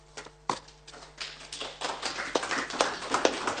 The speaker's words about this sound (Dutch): Een verdiend applaus